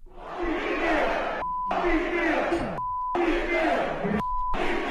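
A large, loud concert crowd chants together in unison, the roaring voices cut three times by short, steady censor beeps.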